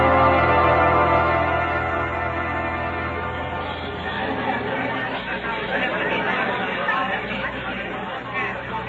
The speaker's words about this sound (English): Dr. Christian, this is more like an angry football crowd than a courtroom.